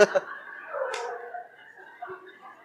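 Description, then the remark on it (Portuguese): A dog barks a few times in quick, sharp bursts, with a couple of yaps at the start and another louder one a moment later. “Para, cachorro. Cachorro chato.”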